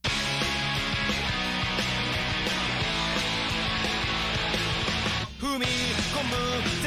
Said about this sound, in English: I definitely hear the Japanese punk scene. It's like that mellow kind of scream going on. Oh, yeah. I love the guitar in this song. Oh, yeah. Like, I love how it does that, like, brum, brum, brum, brum, brum, brum.